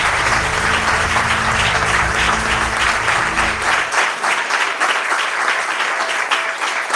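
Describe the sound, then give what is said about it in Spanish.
Loud, sustained applause from an audience at a special Radio Ibiza programme, for the programme's sound technician, a dense wash of clapping that continues steadily throughout with a low rumble underneath for the first few seconds. “Un aplauso muy fuerte para él.”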